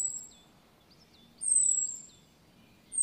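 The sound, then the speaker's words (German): A Eurasian blackbird's alarm call: two long, thin, high-pitched whistles, each drawn out for about a second, with soft short chirps between them, against a quiet background. “Von einer Amsel hört sich der Alarmruf so an.”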